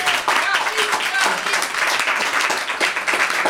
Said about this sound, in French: qui, justement, elle, on peut l'applaudir, responsable de l'action sociale.